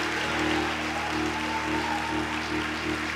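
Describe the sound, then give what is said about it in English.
An audience claps together for God in a steady, dense wash of applause lasting a few seconds, with a low droning hum running underneath and no voices standing out. “If you believe that, give him a hand clap.”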